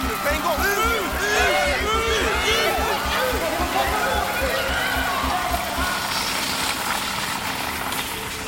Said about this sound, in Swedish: Stäng av vatten! Stäng av vatten! Det kommer vatten på min stereo!